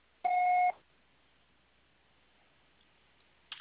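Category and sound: signal or alarm, voicemail recording beep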